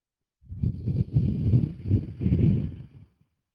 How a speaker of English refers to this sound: And that, you know what that's from? My lack of breathing. So I'm going to take a breath right now.